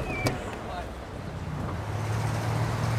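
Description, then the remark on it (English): A rented car drives steadily along a road toward a dig site, its low engine rumble and road noise filling the background, with a humming engine tone building slightly toward the end. “We will take your car.”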